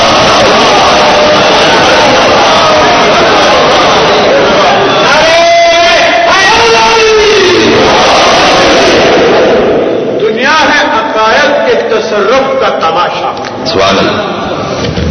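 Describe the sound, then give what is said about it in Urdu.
A large crowd recites the salawat, a blessing on Muhammad and the family of Muhammad, together, many voices rising in loud unison with drawn-out, swelling tones that fade into scattered voices near the end. “جب تک دروازے پر یا علی نہیں کہہ دو گے اندر داخل ہونے کو, صلوات پر محمد و آل محمد.”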